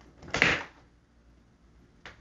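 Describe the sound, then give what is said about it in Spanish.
A bathroom door in a house bangs shut with a fairly loud thump, followed by quiet and then a softer, shorter knock about a second and a half later. “Movimientos de puertas y de cosas, se acaba de cerrar la puerta del baño.”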